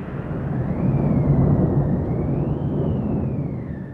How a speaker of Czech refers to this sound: Za to nám pak milostivě nabídli úkryt v kočáru, když vichřice propukla.